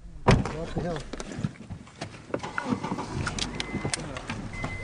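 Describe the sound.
A car door thumps shut near the start, followed by scattered clicks, rustling and shuffling as people settle in, with indistinct voices murmuring underneath.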